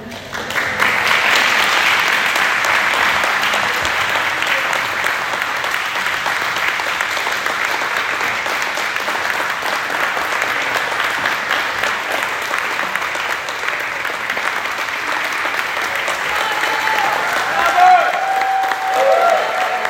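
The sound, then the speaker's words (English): Sustained applause from a large audience, a dense, steady wash of clapping that holds loud for the full stretch with little variation, no voices standing out above it. “Maybe we can do this like the State of the Union address, where I'll give another paragraph and then you all can applaud again.”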